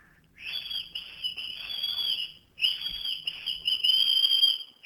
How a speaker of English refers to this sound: you need to whistle